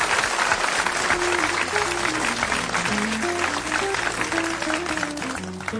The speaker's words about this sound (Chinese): 好 好的，那么掌声送给